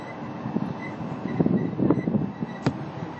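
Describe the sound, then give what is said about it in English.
A theme park parking tram in California rolls steadily along past the Downtown Disney District toward the main entrance plaza, with a continuous low rumble, scattered clanks and rattles rising over it, and a brief sharp metallic tick near the end. “We are now approaching the main entrance plaza.”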